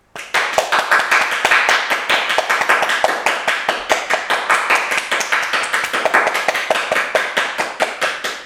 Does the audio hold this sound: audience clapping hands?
yes